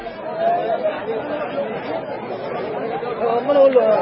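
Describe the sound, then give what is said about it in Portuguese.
A large crowd following Jesus and his disciples out of Jericho murmurs steadily, many overlapping voices blending into an indistinct babble that holds a fairly even level throughout, swelling slightly near the end. “Quando Jesus e os discípulos estavam saindo de Jericó, uma grande multidão os seguia.”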